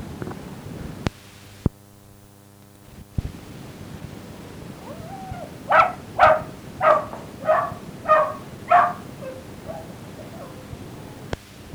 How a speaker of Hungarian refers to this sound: Na búcsúzóul még a kutya a zokni is ugatott egyet.